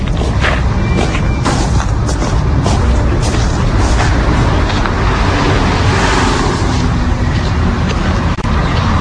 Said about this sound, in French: Ah, le bruit des voitures.